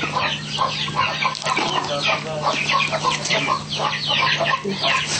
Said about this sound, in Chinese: 这个鸭子它吃饱了就会好的